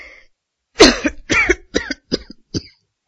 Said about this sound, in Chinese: 说到这儿，他剧烈的咳嗽起来了，呼吸也越来越急促。